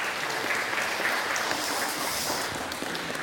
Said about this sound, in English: Give them a round of applause, because they're the greatest.